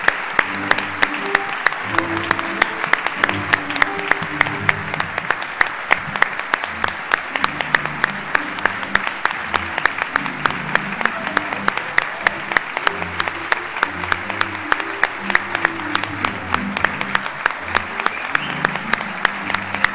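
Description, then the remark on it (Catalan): A crowd at a festival ceremony applauds an honoree called up from the Llops del Ritme squad, loudly and steadily for the full stretch, dense rapid clapping with no pauses, and faint murmurs of voices mixed underneath. “Un fort aplaudiment.”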